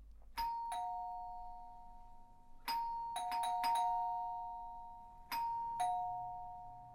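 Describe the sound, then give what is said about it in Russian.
A two-tone doorbell chime, rung insistently by someone at the door, rings again and again in quick bursts, each press striking a sharp ding that hums and slowly fades as the next ring overlaps it. No one speaks. “Через пару минут в дверь начали звонить. Настойчиво.”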